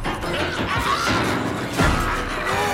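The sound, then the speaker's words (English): A dense, chaotic din of hammer blows, smashing and crashing, with loud overlapping impacts running continuously and one heavier crash standing out near the end. “Pocket uses his hammer to smash as many of them as he can”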